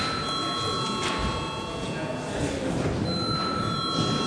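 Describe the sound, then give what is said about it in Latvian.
A parliament chamber bell, called for by the presiding officer ahead of the registration of deputies' attendance, rings steadily without a break, a bright, sustained metallic ring with high harmonic tones, while a murmur of voices and shuffling carries on underneath. “Lūdzu zvanu.”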